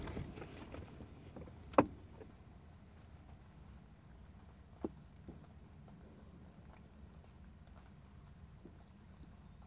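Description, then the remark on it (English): Leftover rainwater drips through leaves after rain, heard through a car's rolled-down windows in a quiet outdoor setting: a couple of crisp taps stand out several seconds apart, with a few fainter scattered drops over a low, steady background hush. “It's the remainder of the rain dripping through the leaves.”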